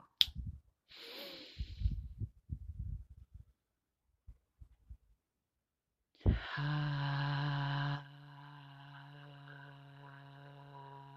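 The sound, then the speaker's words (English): During a conscious breathing exercise, a series of quick, forceful breaths puffs out in uneven bursts, then stops; after a pause, a loud, steady ringing tone with rich overtones sounds and slowly fades to a softer hum. “Conscious breathing exercise, being current here now.”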